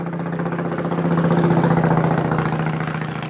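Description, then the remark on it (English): A motorcycle passing by, its engine rumbling steadily with a low, throbbing drone that swells slightly in the middle and then eases off, with no voices present. “That was your local friendly neighborhood. I want to be in a bike club guy.”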